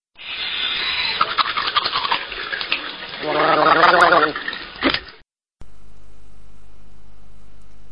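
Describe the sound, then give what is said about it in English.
Running water splashes steadily for a few seconds, then a bubbly gargle rises up before cutting off, followed by a low steady hum; a person cleaning their teeth. “Clean your teeth.”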